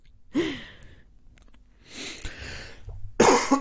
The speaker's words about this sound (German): Entschuldigung, ich muss meine Antwort von eben korrigieren. Ich huste doch anscheinend häufiger.